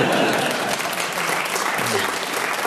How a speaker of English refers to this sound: Got a round of applause. That piece of advice just got a round of applause. It's Radio 4. They appreciate knowledge.